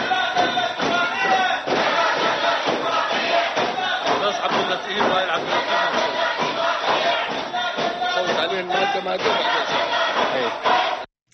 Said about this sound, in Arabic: حضر جلسة اليوم 198 نائبا من أصل 275 عضوا في مجلس النواب. وردد النواب المعارضون للاتفاقية هتافات ضد إقرارها خلال عملية التصويت.